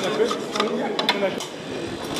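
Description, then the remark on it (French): Continuous scratchy scraping across hard chocolate molds, scraped to prepare them for pouring chocolate into them, with several sharper rasping strokes standing out and a faint voice underneath. “je vais gratter des moules pour pouvoir couler mon chocolat dedans”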